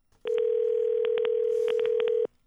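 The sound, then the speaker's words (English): A steady telephone dial tone hums for about two seconds while a quick run of keypad presses clicks over it, several in rapid bursts, clear with no voices. “And an email came into our office this week from a listener urging me to make a phone call.”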